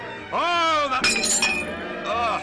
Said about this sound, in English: You broke your glass.